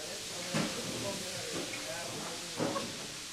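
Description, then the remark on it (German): A steady hiss of steam rising from cooking pots fills a large kitchen at Kloster Banz near Bad Staffelstein at 9 a.m., as kitchen helpers chop vegetables, with a few brief clanks at intervals and muffled voices faintly in the background. “Um 9 Uhr morgens dampft es bereits aus den Töpfen der Großküche.”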